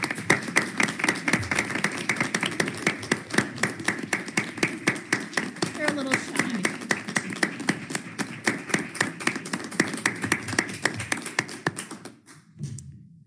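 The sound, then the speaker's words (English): An audience breaks into applause for election workers, a dense, steady patter of many hands clapping that holds for about twelve seconds before quickly tapering off into quiet. “Would you mind if we just give them a quick round of applause?”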